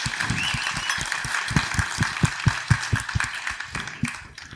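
An audience claps for a few seconds, a dense crackle of many hands with some sharp individual claps standing out, holding steady before thinning out toward the end.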